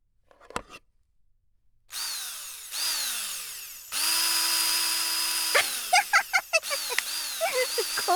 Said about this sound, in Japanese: では電動ドライバーとかがそれっぽい音がするのでは。あるんだ、電ドラ。